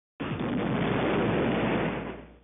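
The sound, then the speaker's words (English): A single dull, distant explosion: a sudden muffled boom that rolls on as a broad rumble for about two seconds, then fades away. No voices. “A dull, distant explosion is heard.”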